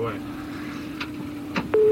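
A couple of soft clicks, then a loud, steady electronic telephone tone suddenly begins near the end and holds, over a low background rumble.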